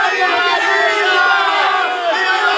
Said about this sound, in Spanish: Al grito de ¡Viva Villa! ¡Viva México! 500 villistas atacan esta pequeña ciudad fronteriza en venganza por el reconocimiento de Estados Unidos al gobierno de Carranza.